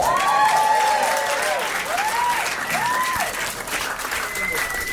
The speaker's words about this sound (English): Just, you know, round of applause for a second.